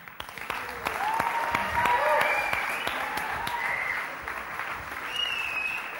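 An audience breaks into steady applause for the presenter's assistant, dense clapping that swells after the first second and holds for several seconds, with a few whoops and cheers rising over it before it gradually eases.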